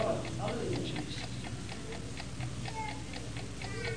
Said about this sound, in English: Yes, it's still ticking. But for some that was here last year, they don't hear that. No, they don't. They'll never hear that again.